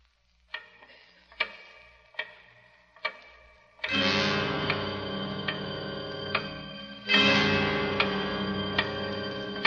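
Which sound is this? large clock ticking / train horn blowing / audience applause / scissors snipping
large clock ticking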